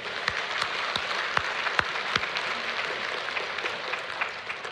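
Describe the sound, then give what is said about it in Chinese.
Steady applause from a church gathering, a dense wash of many hands clapping at a fairly even level, with a few sharper individual claps popping out, given in thanks for the members' service. “我们九个小组的同工和后援上百人参与了服事，我们为弟兄姐妹的服事感恩，鼓掌好吗？”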